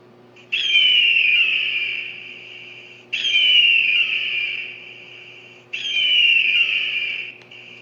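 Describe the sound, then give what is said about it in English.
A bird of prey screams three times, each cry a long, shrill, piercing note that starts abruptly, sags slightly in pitch and fades, with short pauses between and no talking. “The screaming, and it gives you chills just to listen to it.”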